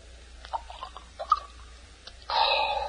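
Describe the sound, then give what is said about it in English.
A few light clinks of glass, then brandy is poured steadily into a glass, a bright gurgling stream lasting about a second to the end. “Please, pour me another brandy, will you, Doctor?”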